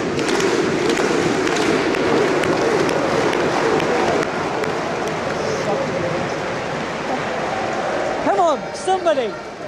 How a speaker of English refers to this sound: The Icelanders clap.